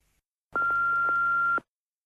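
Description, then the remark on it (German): A single steady electronic beep about a second long, loud and clear, a telephone answering machine tone before a message, with no speech, followed by silence. “Jetzt hörst du die erste Nachricht am Telefon.”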